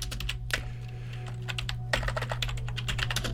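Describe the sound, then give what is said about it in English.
Rapid clacking of keys on a computer keyboard, fairly steady, with irregular bursts of keystrokes over a low electrical hum and no voices. “That is, this keyboard here does not work for my piano fingers.”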